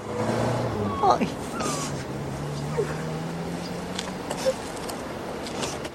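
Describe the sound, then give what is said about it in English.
A car engine hums steadily as the car sweeps out past a gate, its low drone gradually sliding down in pitch, with a few faint clicks and murmuring in the background. “She stands by the gate and waves as the car sweeps out.”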